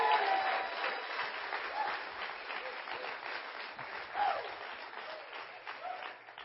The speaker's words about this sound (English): And I know he's not here this morning, but can we give him a cheer this morning? Come on.